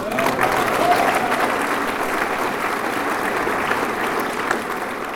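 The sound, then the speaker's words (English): An audience at an Alcoholics Anonymous meeting applauds steadily for about five seconds, a dense, even wash of many hands clapping at a constant loud level with no one speaking over it. “You're applauding because Alcoholics Anonymous works.”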